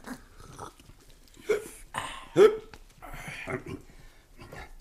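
A few sharp, abrupt hiccups spaced unevenly over a few seconds, fairly loud, with breathy vocal sounds in between, likely a voice imitating them.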